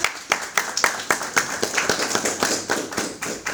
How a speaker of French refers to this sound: Je pense que cela mérite la chaleur de vos applaudissements.